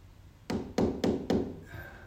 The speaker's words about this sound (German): Vielleicht hörst du heute Morgen sein Klopfen. Er rennt die Tür nicht ein.